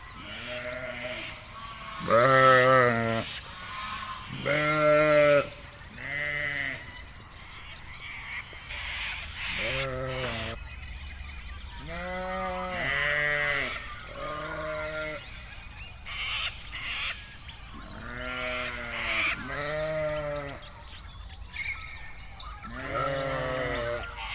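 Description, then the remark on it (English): A flock of Suffolk sheep bleating at feeding time in South Australia, many overlapping wavering calls, some loud and close together, others fainter, repeating throughout with short gaps between bursts. “Feeding Time, Suffolk Ship.”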